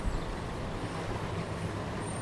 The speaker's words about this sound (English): That aeroplane going. Yeah, it's kind of odd.